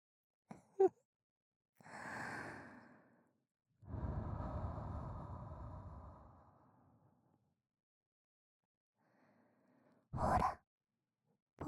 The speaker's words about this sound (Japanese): まずこうやって、私の吐息をかけて、お客さんのお耳を温めていきます。